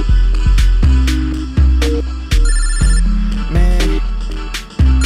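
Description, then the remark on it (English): A phone ringtone plays loudly, a catchy melodic tune with punchy, regular beats and bright synth notes repeating for several seconds, with no one talking. “I shouldn't answer this phone, yo.”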